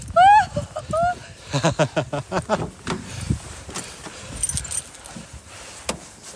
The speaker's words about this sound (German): das Auto läuft! Das Schönste an der Tour, ein funktionierendes Auto.